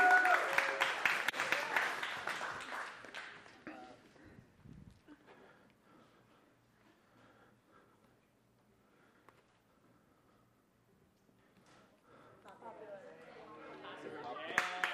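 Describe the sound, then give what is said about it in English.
A crowd claps and cheers loudly at the start, then the noise dies down to a low murmur before voices and cheering swell up again near the end. “All right, seems like the crowd agrees.”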